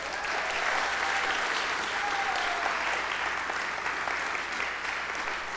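A crowd applauds steadily for several seconds, a dense, even wash of clapping at a fairly loud level with no pauses and a faint whistle briefly rising above it.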